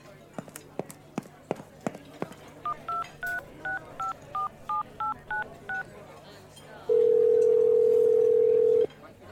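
A string of about ten short touch-tone dialing beeps in a quick, even rhythm, followed by a long, loud steady tone. A few sharp taps or clicks come just before the dialing.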